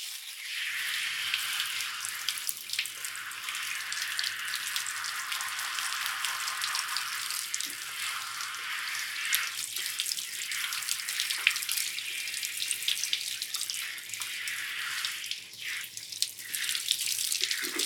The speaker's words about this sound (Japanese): よし、それじゃあシャワーで流すとしようか。